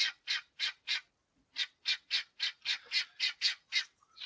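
Chickens squawking in a loud, steady run of about thirteen harsh, raspy calls, with a short pause after the first four before the rhythm picks up again. No voices.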